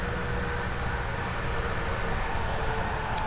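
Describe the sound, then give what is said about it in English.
A steady, unbroken roar of interstate highway traffic heard outdoors while searching for mushrooms after rain, a low rumbling wash of tires and engines holding at an even level throughout, with no voices. “Yeah, you can probably hear the traffic of the interstate.”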